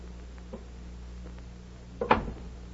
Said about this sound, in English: Suddenly... Excuse me a minute, Betty, while I answer the door.